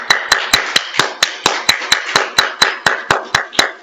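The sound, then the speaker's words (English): Applause for the mothers on Mother's Day morning, in an even, steady rhythm: about sixteen crisp, sharp claps spaced evenly, fairly loud, with no talking over them. “Probably should have a round of applause for the mothers.”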